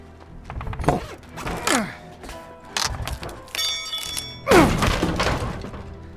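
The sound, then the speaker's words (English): A crowbar prying and thudding: several heavy thumps and cracking impacts, with a brief metallic creak and groan between blows, like something being forced apart. “Crowbar.”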